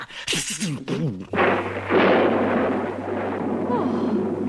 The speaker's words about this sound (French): À cet instant, éclate un terrible orage, déchiré d'éclairs, ponctué par d'énormes coups de tonnerre.